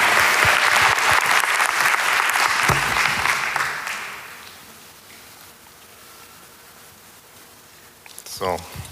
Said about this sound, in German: Also nochmal Applaus für ihn.